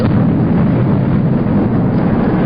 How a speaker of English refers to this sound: As you can hear, they were not successful. The explosion ripped a 5-story scar through the side of Harvey's at Tahoe, as everybody watched on live TV.